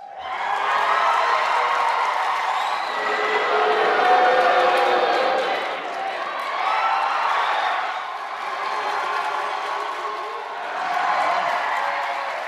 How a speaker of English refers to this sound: And it was Battle of the Fans, not Battle of the Bands, at the Brooklyn Navy Yard last night. Can you pick a winner in the Bernie versus Hillary supporters shout-out from that debate?